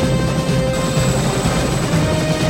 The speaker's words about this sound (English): The helicopter takes off. Another helicopter is seen.